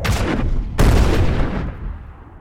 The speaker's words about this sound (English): Suddenly, a deafening explosion rocked the vehicle as an RPG struck it with brutal force and toppled it onto its side. The impact sent a shockwave through its body.